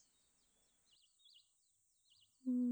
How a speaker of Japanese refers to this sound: この鳴き声、何の鳥だろうね。